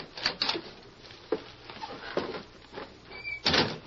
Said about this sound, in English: Finally, they arrived at the doorway of a little shack on the edge of town. Is this where the fat man lives? This is where we meet him. Go on, open the door, Lacey.